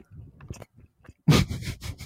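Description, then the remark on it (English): Wet chewing of a crunchy Subway sandwich, starting with soft intermittent munching and then breaking into a loud burst of crisp crunches right against the microphone. “You can lean in for a bit of crunch against the microphone.”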